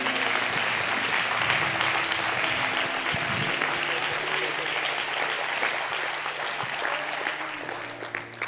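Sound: audience clapping hands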